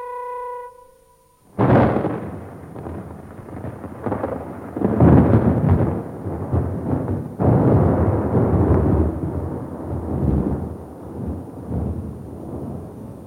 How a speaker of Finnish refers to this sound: Mikä leimahdus? Oliko se salama? Se sokaisi minut melkein kokonaan. Kuuntele tuota jyrinää.